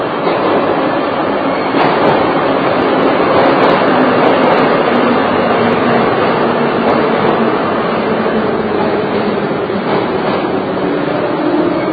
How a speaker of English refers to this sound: A train is coming. True to our word. 2 minutes and 5 seconds. A little bit later than usual. And these trains are so sturdy looking and big.